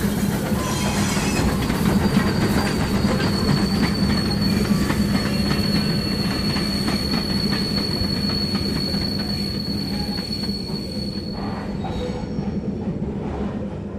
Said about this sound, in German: Die Kohlewagen oder Erzwagen, die da immer durch die Gegend fuhren. Das das Quietschen von Eisenbahnwagen.